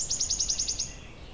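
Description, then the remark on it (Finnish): A goldcrest sings in a forest, a rapid run of very high, thin notes, about eight in quick succession, fairly faint, with no voices and only soft background hiss. “Tässä metsässä elää myös hippiäinen. Se laulaa tuolla taustalla ja kaukaisempia viheltelyjä päästelee vihervarpunen.”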